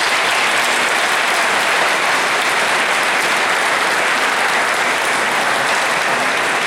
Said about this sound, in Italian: E un bel applauso di auguri.